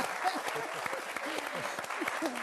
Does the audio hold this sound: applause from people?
yes